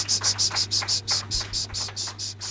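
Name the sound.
cicadas chirping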